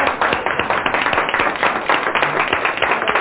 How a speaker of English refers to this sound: I want all the Donalds and all the Eddies to stand up and give yourselves a very strong round of applause.